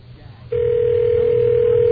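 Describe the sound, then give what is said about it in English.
After a brief moment of low room noise, the dial tone of a hotel room telephone, used to call Don Adams, switches on abruptly: a loud, steady, unbroken hum that holds at a constant pitch until the end. “We're using the phone in the hotel room now to call Don Adams.”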